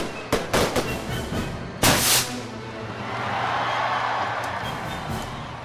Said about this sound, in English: I think part of it to me, part of what they enjoy, and part of the mystery of fireworks is seeing it appear seemingly out of nowhere. Seeing the fire arise in the darkness.